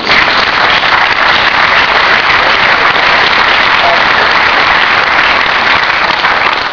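Sustained applause from a large audience at an event, dense and steady throughout with no pauses, loud, like a whole crowd clapping at once.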